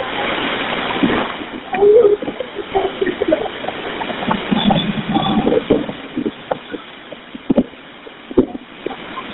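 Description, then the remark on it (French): A rescue boat approaches across choppy water, its engine droning beneath steady splashing and gusts of wind buffeting the microphone, with a few faint voices mixed into the noise. “Le bateau, il s'approche de sauvetage.”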